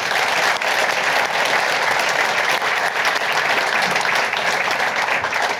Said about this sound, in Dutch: Applaus voor Dirk.